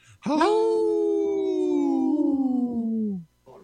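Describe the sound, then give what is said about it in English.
Human voices imitate a wolf howl together: one long, loud, sustained howl that slowly slides downward in pitch for about three seconds, then cuts off. “you didn't howl with us, bro.”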